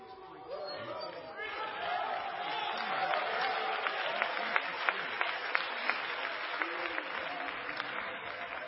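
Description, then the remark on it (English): A church audience shouts and cheers in worship in a steady wash of crowd noise, with scattered hand claps growing sharper and more frequent as the applause builds and holds. “Walk into this place shouting joyfully unto the Lord. Fill the house with a shout of worship.”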